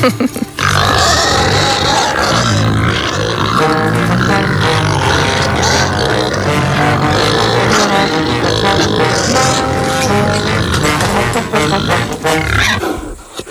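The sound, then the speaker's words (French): Gascon black pigs grunt and snort almost nonstop for the whole stretch, a loud, dense chorus of rough, low calls broken by occasional higher squeals. “Donc on a vu que c'était des cochons noirs. Ouais, des gascons. Donc des porcs noirs gascons.”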